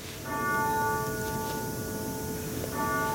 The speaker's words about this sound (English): She knows to wait for the grandfather clock to finish ringing. Edith Wilson, whose clock it was, grew up in Virginia.